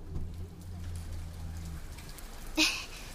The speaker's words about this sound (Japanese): 嘘でしょ？こんな急に雨が降ってくるなんて。